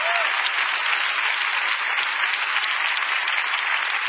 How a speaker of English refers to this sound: Everybody who came to church physically, clap. I am applauding you for being here.